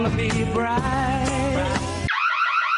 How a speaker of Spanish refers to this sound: Todas las alarmas suenan igual, pero no protegen igual.